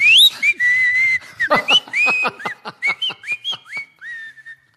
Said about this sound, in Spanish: Se me secó la boca y no pude silbar dulcemente como las princesas.